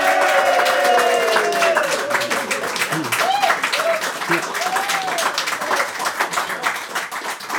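An audience applauds steadily, dense clapping filling the whole stretch and easing slightly toward the end, with cheers and whoops rising over it.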